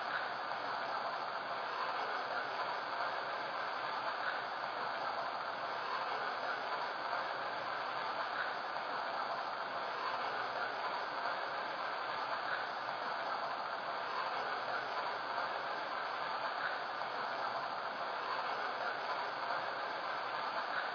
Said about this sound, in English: Now departing from Milwaukee on track 1. Train number 1280. The Ebony Limited.